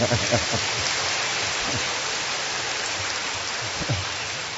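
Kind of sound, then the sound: crowd, audience applause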